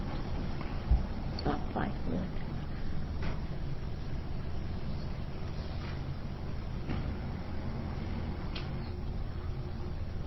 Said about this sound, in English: There goes a truck.